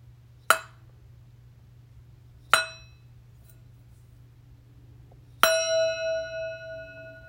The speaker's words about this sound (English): This now brings us to the end of our meditation. When you hear this bell, you may open your eyes and bring yourself back to the room.